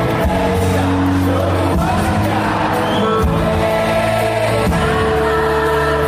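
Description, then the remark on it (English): A loud concert crowd in New York cheers, whoops and shouts continuously over live music with sustained held tones, the noise staying dense and steady throughout. “You get a lot of crowd, but it's cool knowing they're doing it.”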